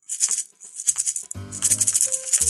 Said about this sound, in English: Those are maracas. Well, I couldn't find jingle bells. So you just had to shake something.